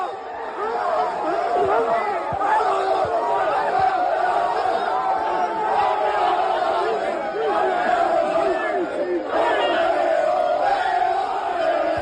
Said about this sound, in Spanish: Ese es el audio cuando se enteran los chavales de … del Castellón, que había perdido la Nucía y también el castellonense, y lo celebraban con estos gritos de campeones, campeones.